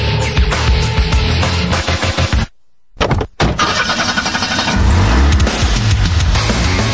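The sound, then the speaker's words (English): A car engine roars loudly, cuts out abruptly for a moment, then sputters and revs back up into a steady, throaty growl. “If I were a car, I would go vroom, vroom, vroom.”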